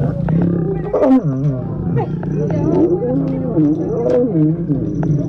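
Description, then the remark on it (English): Lions roar and growl in long, rumbling, low-pitched bursts that rise and fall continuously, loud throughout, with a faint periodic high clicking in the background. A pair of lions mating on top of a Jeep during a Jeep safari tour, recorded on tourists' cell phones. “When a couple of lions jumped on top of the Jeep and started getting it on, tourists...”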